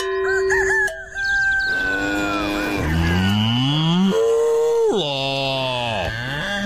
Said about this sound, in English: It sounded like it was saying moolah. That cow was saying moolah, yes. Oh. It's the KLOS cash cow.